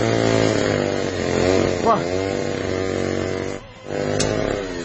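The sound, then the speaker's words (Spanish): A chainsaw engine roars loudly, its buzzing pitch revving upward briefly, then dipping for a moment before the motor surges back to a steady whine. “El loco en la motosierra.”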